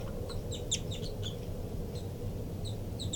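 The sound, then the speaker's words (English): Begging calls of the baby bird labelled 5-9: thin, high-pitched chirps repeated in quick clusters, then sparser, over a steady low rumble. No one talks. “Begging by the baby, 5-9.”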